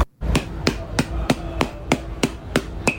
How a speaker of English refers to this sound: So he's hitting his mom on the back with this hammer. Oh, it's not. It's not his mom.